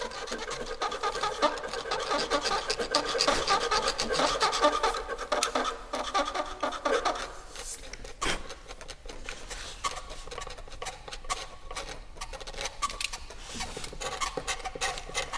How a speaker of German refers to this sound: Mit Schweizer Taschenmessern schaben und kratzen die Ensemblemitglieder auf den Transparenten herum.